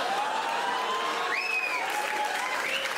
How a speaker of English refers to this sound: That was a round of applause from the French-Canadian women that will do fucking everything.